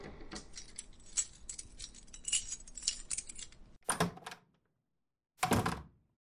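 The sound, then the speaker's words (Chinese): The key to room nine jingles and rattles for several seconds as it is handed over, followed by two heavy thumps with a pause between them, like a door or lock being worked. No one speaks. “好的，请两位前往九号房间，这是钥匙。”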